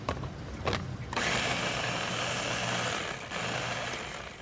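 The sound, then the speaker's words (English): A blender whirs after two brief pulses, then runs in a steady, loud grinding roar with a low motor hum, dipping slightly for a moment before continuing, blending lamb's quarters, a wild green, for pesto at a live cooking demonstration before almost 250 attendees. No one speaks. “Today, Gladstone stuffs a wild green called lamb's quarters into a blender.”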